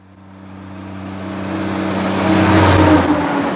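A heavy truck approaches and rumbles past on the truck route in Haines, its deep engine drone and tire roar building steadily louder, with a faint high whine rising and fading as it nears.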